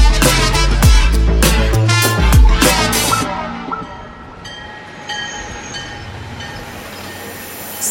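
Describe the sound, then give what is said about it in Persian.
A train rolls in with loud rumbling and rhythmic clanking bursts, then quiets into a long, steady high-pitched whistling tone over a low hum, with no voices. “یه سوت ممتدی به گوش من رسید و بعد پیاده شد در ایستگاه.”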